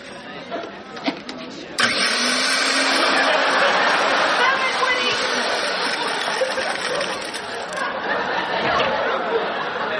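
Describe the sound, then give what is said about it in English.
After a couple of seconds of quiet, an electric blender suddenly whirs to life, roaring loudly and steadily with a harsh, grinding buzz that keeps going to the end. “Some bar manager afraid of a blender.”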